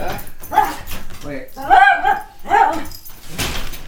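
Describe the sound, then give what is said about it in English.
A dog that has just turned off a power cord whimpers and gives a few short, high yelping barks in uneven bursts, with people talking in the background. “The dog turned off the power cord.”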